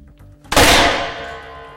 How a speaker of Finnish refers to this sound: Kaikki paloja lenteli. Pistolimme kesti vain yhden laukauksen, koska se oli valmistettu muovista.